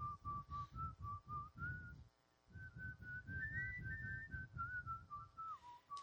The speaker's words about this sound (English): Yeah, okay, well, so we don't need to hear me whistling.